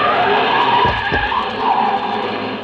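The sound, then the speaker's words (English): A car starts up down a street and tears away with its tires skidding and screeching, a loud, continuous squeal over roaring engine noise lasting a few seconds, with no voices. “It was a short trip because a car started up down the street and the old man couldn't have made it with a pocket full of aces.”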